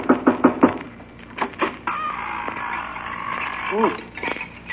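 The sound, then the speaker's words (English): Four quick, evenly spaced, crisp knocks on a door, followed by voices and a clucking, crowing bird-like sound. “Well, if we're going in to get the Wicked Witch, I better knock on the door.”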